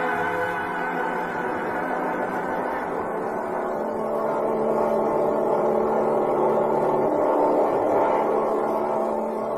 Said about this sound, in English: We'll check the radar while they're warming up the plane.